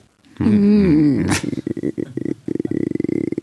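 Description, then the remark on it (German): A person imitates a dog with a drawn-out, wavering growl lasting about a second, then breaks into quick, rhythmic huffing and gruff bursts, loud. “Und dann geht da der Klassiker wieder. So ein Hund.”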